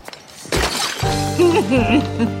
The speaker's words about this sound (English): Picks up a plant, smashes it on the ground.